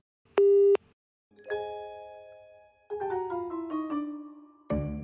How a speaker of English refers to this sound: So if you need me, leave a message after the tone. I won't get it because I don't know how to access my answer machine.